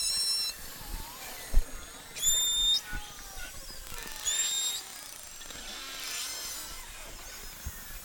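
Beluga whales (Delphinapterus leucas) call underwater, recorded by hydrophone in Churchill, Manitoba, Canada: high, thin whistles slide and chirp in short bursts over a constant hiss, with scattered clicks and creaky pulses, and no voices.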